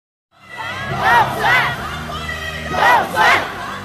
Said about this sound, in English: A campaign rally in Taipei had supporters cheering for the re-election of Taiwan's first female president, Tsai Ing-wen.